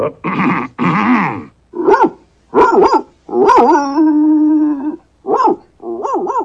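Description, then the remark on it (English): A dog, old Towser down at Withermarsh, barks loudly in a series of sharp, tonal woofs, breaking into one long, drawn-out howling bark midway before a few more short barks. No one speaks. “It's old Towser down at Withermarsh, sir.”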